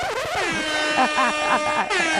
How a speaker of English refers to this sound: Yeah, we need the siren for that.